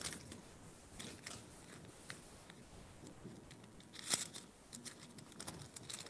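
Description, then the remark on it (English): Quiet rustling as thin Bible pages are flipped through to find a verse in the Song of Solomon, with soft papery crinkles throughout and one sharper snap of a page partway in. No one speaks. “It's in the Bible somewhere. And I have these little paper clips. And I'll find it here.”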